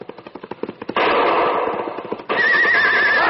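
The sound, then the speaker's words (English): Rapid galloping hoofbeats pound for about a second, then an injured horse lets out a loud, shrill whinny, followed by another high, wavering whinny. No one speaks. “My horse is hurt.”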